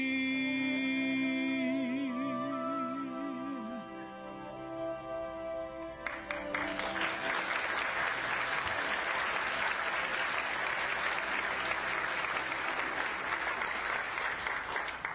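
A sustained sung note with wavering vibrato fades out at the end of a worship song, then a large audience breaks into loud, dense applause that continues steadily for about nine seconds.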